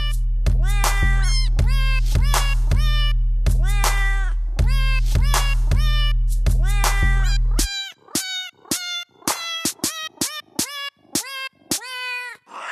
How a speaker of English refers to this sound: But now we don't need a cat piano because we can record the voices of actual cats. So what you can do is get a cat's voice, sample it, and then match that sample to actual notes on a keyboard.